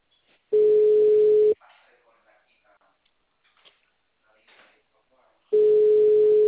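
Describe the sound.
A telephone line tone sounds twice, each a loud, steady, one-second beep about four seconds apart, with faint muffled voice sounds in the quiet gap between them.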